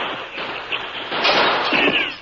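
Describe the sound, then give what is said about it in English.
A rapid volley of gunshots with bullets whining through the open window of a shack, several sharp cracks blurring into a dense, hissing burst of noise that stays loud throughout, with no one speaking. “As bullets whined through the open window, Dude jumped.”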